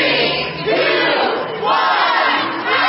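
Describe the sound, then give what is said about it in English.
A large crowd of eager Black Friday shoppers in New York City shouts a countdown in unison to the opening of the doors to Macy's on Thanksgiving afternoon, loud voices swelling together about once a second over a constant roar of chatter. “3, 2, 1, that's the sound of eager shoppers as they were counting down the opening of the doors to Macy's, which opened on Thanksgiving afternoon.”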